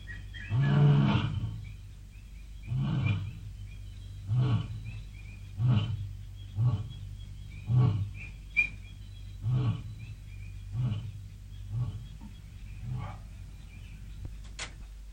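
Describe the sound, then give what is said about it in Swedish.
A lion roars in a long series of deep, rhythmic grunts, about nine evenly spaced bursts that start strong and gradually fade, with no one talking. “Vi måste skynda oss undan lejonen.”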